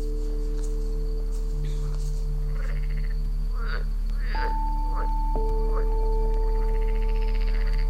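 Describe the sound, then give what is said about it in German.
Scattered short frog croaks rise out of a steady outdoor night ambience, with a few louder calls in the middle, over a constant low electrical-sounding hum and faint insect-like chirps. “Welchen Frosch würde ich auch nicht meine beste Show abliefern, wenn überall um mich herum merkwürdige Menschen sind.”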